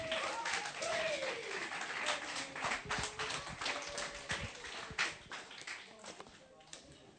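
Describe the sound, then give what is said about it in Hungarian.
An audience breaks into sustained applause, a dense crackle of many hands clapping with a few voices calling out, gradually thinning and fading toward the end. “Adjatok egy nagy tapsot nekik.”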